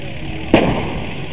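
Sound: fireworks going off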